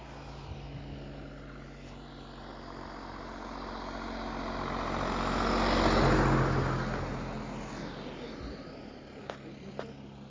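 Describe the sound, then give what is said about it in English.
A small personal aircraft for carrying a person across water drones overhead, its engine hum swelling as it approaches, peaking midway, then fading as it moves off; two brief sharp clicks near the end, no voices. “Now, yeah, it's got to be a mechanical horse, but this personal aircraft now that you can get to get yourself across water.”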